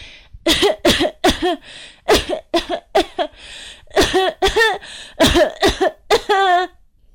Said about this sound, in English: Suddenly, the taste of peppermint flooded her mouth, causing a wave of coughs to erupt. To her surprise, and to the surprise of her family, the coughs came out in the familiar pattern of a holiday classic.